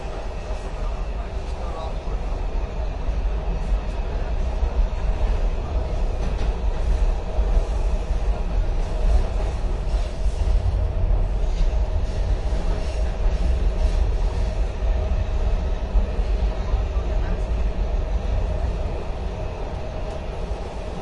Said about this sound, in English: This is Eastern Market. Doors opening on the left. On the board, this is the Orange Line train to the ground.